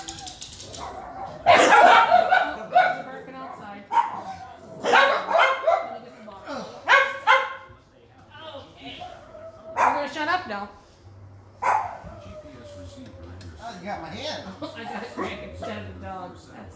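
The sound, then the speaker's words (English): Several dogs bark in loud, sharp bursts, clustered in quick volleys, with short yips and pauses between, while a person talks intermittently underneath. “But besides the dogs barking, back to my public service announcement”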